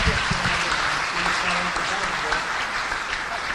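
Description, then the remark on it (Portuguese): A crowd applauds a speaker at the close of a panel session about DOSVOX: a dense, even patter of many hands clapping that holds at a constant level, with faint voices mixed in near the start. “Uma salva de palmas,”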